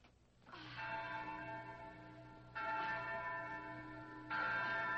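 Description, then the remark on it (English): A large bell at the Hacienda Dolores rings out in three resonant strikes, each one swelling and lingering with a rich, humming tone before the next clangs in, loud with no voices. It is rung to summon the men. “Oh, well, ring the bell, Inez.”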